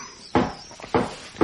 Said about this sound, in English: See who knocks there. It is a painter, sir.